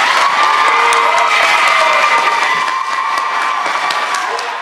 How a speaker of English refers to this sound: You can hear and see all of those people applauding after Councilmember Deidreana Freeman did ask for an amendment to the resolution to add the language of genocide in it.